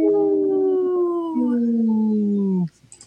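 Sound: wolf howling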